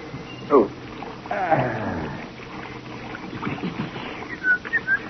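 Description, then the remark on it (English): Steady hiss of shower water running throughout, with a few brief whistling, sliding tones and faint chirps rising over the spray near the start and end. “In a state of confusion, with an emotional distress quotient of at least 0.742, he stripped off his uniform and entered the shower.”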